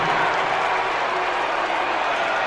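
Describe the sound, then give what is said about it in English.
A loud, dense crowd in a race game's stadium roars and cheers without a break as the race begins, a broad wash of voices and clapping-like noise holding steady for a couple of seconds. “Now I find this crowd to be quite loud.”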